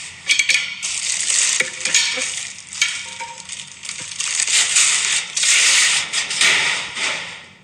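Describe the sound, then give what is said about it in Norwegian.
Garbage thrown from the fourth floor rattles and tumbles down a trash chute in a long, loud, crackling rush, with scraping and clattering bursts for several seconds before tapering off. No voices. “Jeg kastet søppelen ned i søppelsjakta fra fjerde etasje.”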